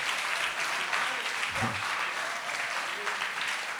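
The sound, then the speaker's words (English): An audience claps steadily, a dense wash of many hands filling the whole clip at an even, moderately loud level with no voices over it. “You see, those who understand what I'm saying, they clap.”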